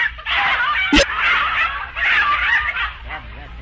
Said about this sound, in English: Oh, say, that's a nice bunch of chickens you've got there. Oh, my gosh, they're in again. Hey, get out of there!